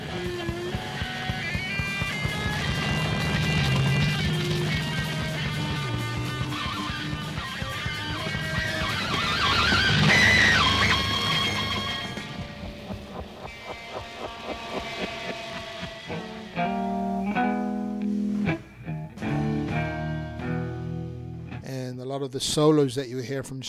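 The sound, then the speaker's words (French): Heavily distorted electric guitar imitates bombs, machine-gun fire, the screams of children killed by napalm and crashing planes, with loud sustained, wailing tones and noisy swells giving way to choppy, stuttering bursts and sharp attacks toward the end. “Il va nous faire entendre le bruit des bombes, le bruit des mitrailleuses, le cri des enfants qui sont tués au napalm, le bruit des avions qui s'écrasent.”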